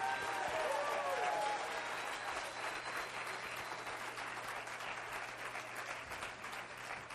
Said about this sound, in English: All right, we're going to have a baptism. Praise God. Clap your hands, lift your voice.